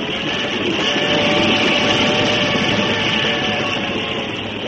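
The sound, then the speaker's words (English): A steady, dense rumble of a moving train, with a broad roaring hiss and faint rhythmic rattling holding at an even, fairly loud level throughout, as the train heading south from Brisbane toward Melbourne approaches Albury. “And as the train approached Albury, the heart of the singer quickened with love and excitement.”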